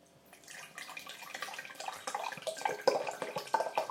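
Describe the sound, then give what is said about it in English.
Water pours steadily into a measuring jug, a continuous splashing, bubbling stream that grows a little louder and fuller over about four seconds, with no voices; 250 milliliters of water being measured for one cup of coffee. “And I'm going to measure 250 milliliters of water.”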